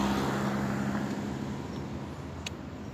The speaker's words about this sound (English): White. Silver car.